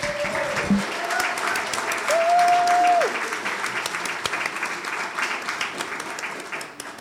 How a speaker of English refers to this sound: And I'd like us all to give a round of applause.